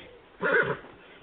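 A short horse whinny, under half a second long, rises out of a quiet, muffled background and fades quickly. It is a single call, moderately loud, with no talking around it.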